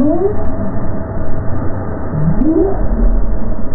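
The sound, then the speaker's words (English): Underwater recording, made with a passive recording device, of a right whale traveling off Cape Cod in the Gulf of Maine in 2015, giving low, rising upsweep calls, one early and one near the end, over a steady muffled rumble of ocean noise. “This whale was traveling off the Cape in 2015.”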